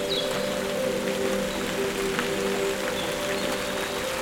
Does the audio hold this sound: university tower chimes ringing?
no